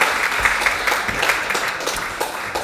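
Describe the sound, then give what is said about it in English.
A crowd gives its helpers a round of applause, with many overlapping claps forming a dense, crackling wash of sound that holds at an even, fairly loud level throughout. “Well, let's give our helpers a round of applause.”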